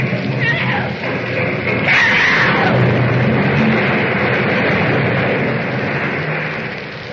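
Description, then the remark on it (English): The planet Krypton exploding into millions of glowing fragments: a loud, sustained roar of dense rumbling noise with shrill, wailing tones mixed in, holding steady for several seconds before easing off slightly at the end. “So the tiny spaceship roars into the uncharted heavens as the mighty planet of Krypton explodes into millions of glowing fragments.”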